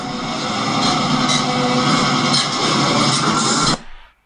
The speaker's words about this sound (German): Das war es von der Internationalen Eisenbahntechnischen Ausstellung Sedin. Dampf. Elektro. Und Diesellokomotiven.